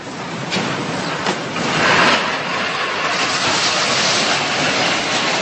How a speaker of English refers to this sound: This was shot by someone outside his house. You could hear the crashes as the area is rattled by the quake.